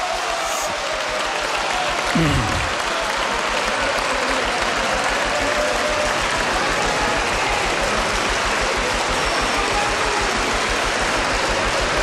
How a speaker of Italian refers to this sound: Prego applausi.